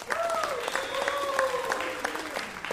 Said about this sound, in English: Hey, you can clap for the King family. They're good.